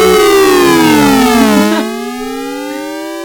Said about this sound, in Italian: Ma adesso arriva la cosa più bella: un triplo glissando con onde triangolari a dente di sega e rettangolari.